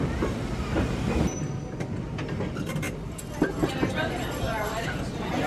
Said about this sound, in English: And we are headed to the North Pole this evening with a train full of happy people.